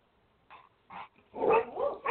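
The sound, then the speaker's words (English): A dog gives two short, faint yips, then breaks into louder, rapid barking that runs together in a continuous, rising burst. No one speaks. “Sweet Pea, this is your dog.”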